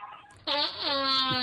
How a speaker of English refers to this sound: Hey, you got to take that fart noise and overdub it with